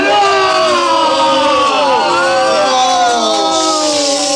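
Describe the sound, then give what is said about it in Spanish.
A chorus of anguished, wailing screams from many voices as ice men melt in intense heat, overlapping and wavering in pitch, loud, sustained without a break for several seconds. “Los hombres de hielo lanzan gritos de angustia al sentir que el intenso calor derrite sus cuerpos.”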